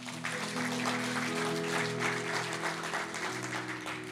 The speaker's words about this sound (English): Thank you. Let's give the Lord a clap, eh?